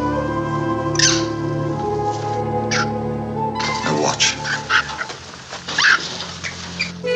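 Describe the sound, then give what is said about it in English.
An agitated monkey in a cage, just injected with a serum, shrieks in sharp, high-pitched bursts that grow more frantic over several seconds, with a brief spoken remark early on and a steady low hum underneath. “Instead, Jekyll talks about his work and shows Ernst his progress by injecting a serum into a monkey, and the monkey goes crazy in his cage.”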